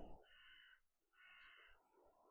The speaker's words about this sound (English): Well, I don't know if you heard that crow cawing back at me there. How chilling.